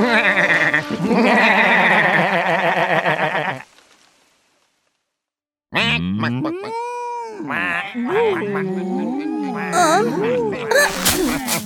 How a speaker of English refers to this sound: Here are some goats. They're clean goats.